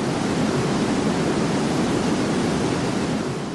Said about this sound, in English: Here's 225,000 cubic feet per second of water rushing over Niagara Falls.